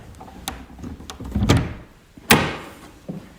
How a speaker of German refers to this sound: Guck mal, hier ist eine Tür. Hier hinter dem Vorhang ist eine Tür. Mach die mal auf.